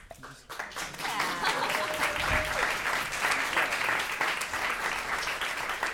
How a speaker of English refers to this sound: Sorry. Or you don't have to. I forgot to give the announcement of applaud if you want to, or if you don't want to, then you don't have to.